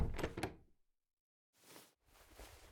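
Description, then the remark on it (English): A door swings shut with a solid thud and a couple of sharp clicks, then a short silence followed by two soft, breathy rustling sweeps. “Close the door.”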